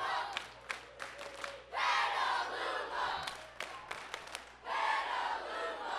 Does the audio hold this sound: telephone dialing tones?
no